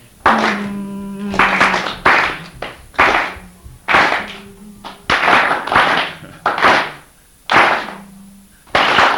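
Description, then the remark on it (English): Sharp hand claps repeat in a steady rhythm of about a dozen strikes, a clapped rhythm pattern practised before a song is put over it. They are loud with a roomy echo, and faint humming tones drift beneath some of them. “Okay, we do that three series of those, and then the last one is clap, clap, clap, clap, clap, 3, 4, 1, clap, clap, clap, 3, 4, 1, clap, clap.”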